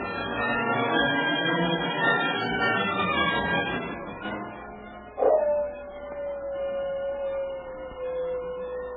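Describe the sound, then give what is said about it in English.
A dog barks and yelps in a rough, noisy stretch, then lets out one sharp bark that trails into a long, steady whining howl, moderately loud. “Forget that dog and work on that rope.”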